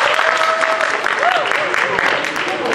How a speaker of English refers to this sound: All right. I think our technicians have done their job now, so maybe we have to give them a round of applause.